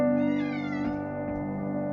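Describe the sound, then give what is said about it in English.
A pet cat lets out a long, drawn-out meow with a wavering pitch, fairly clear, heard on its own with no talking over it. “Can you hear the cat in the background?”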